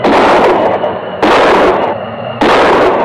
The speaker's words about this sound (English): It was a violent summer storm. Millions of volts slashed the earth. That was the worst storm we've had since I was knee-high to a duck.